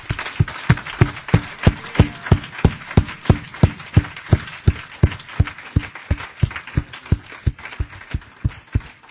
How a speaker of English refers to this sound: I want us to just give the Lord Jesus Christ a clap offering for bringing this convention together.